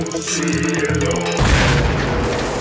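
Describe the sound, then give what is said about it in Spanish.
A steady tonal hum gives way to a sudden, loud nuclear explosion boom, followed by a broad, sustained roaring rumble that fills the rest of the moment. “El hito que cuelga de su espalda y desata la más poderosa explosión nuclear.”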